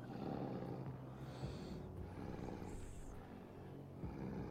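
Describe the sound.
A low, rumbling growl rolls on continuously for several seconds, fairly loud, with a rough, throaty texture and no talking over it.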